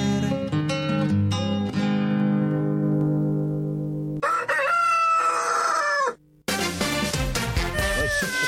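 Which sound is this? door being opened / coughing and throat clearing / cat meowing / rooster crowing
rooster crowing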